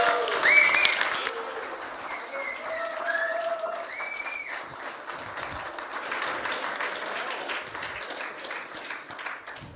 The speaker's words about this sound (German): Und die Gastgeber, die begrüßen wir jetzt mal mit einem riesengroßen Applaus.